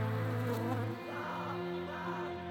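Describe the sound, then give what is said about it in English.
A swarm of mosquitoes buzzes continuously, a dense droning whine with several overlapping pitches that waver slightly, steady throughout with no voices. “The bravest and boldest of the resistance were sentenced to a lifetime of torture in the mosquito pit.”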